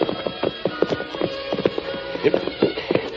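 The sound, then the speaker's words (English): Horses' hooves clip-clop in a steady rhythm, a dozen or so sharp knocks over a low background hum, with no voices; the horses, Silver and Scout, are being ridden near railroad tracks at nightfall. “We'll leave the horses here.”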